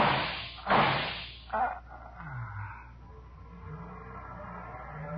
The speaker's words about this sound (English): Somebody shooting from that window.